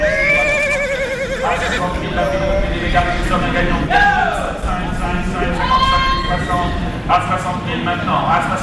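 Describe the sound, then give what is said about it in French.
Horses being led by young handlers before potential buyers whinny and neigh repeatedly in a busy, echoing auction sale ring, with faint hoof clopping and a steady murmur of voices beneath, the calls rising and falling. “Ces chevaux sont absolument magnifiques.”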